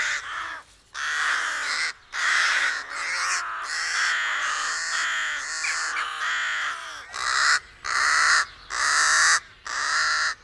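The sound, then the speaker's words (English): Harsh, raspy rook caws repeat in a steady series of loud bursts, overlapping at first and then separating into distinct calls with brief gaps, clear with no talking. “In the English language, their name takes from their harsh call.”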